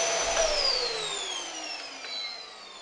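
A vacuum cleaner motor whines steadily, its high-pitched tones sliding gradually lower as if spinning down, with a broad airy rush underneath and no voices.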